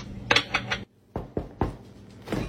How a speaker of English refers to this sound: Why'd you knock on the fridge? Because there could be a salad dressing.